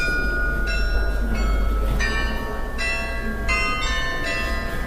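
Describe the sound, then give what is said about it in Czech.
A recording of the Loreta church bells, played in a museum exhibition that holds recorded sounds of 288 bells from across the Czech Republic, rings out in a steady sequence of bright, sustained strikes, each tone lingering and overlapping the next over a low, constant background rumble. “Zvuk, který právě slyšíte, je loreta.”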